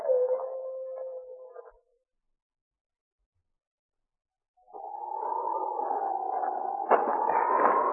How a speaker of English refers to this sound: Them wolf howls are behind us. Those critters get kind of hungry this time of year.